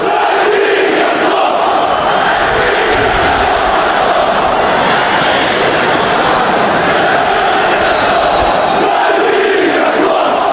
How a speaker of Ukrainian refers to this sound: після того, як 4 серпня під час матчу «Шахтар-Донецьк» «Динамо-Київ» фанати гірників на Донбас-арені палили шарфи з символікою столичного клубу і вигукували «Дави хохлів».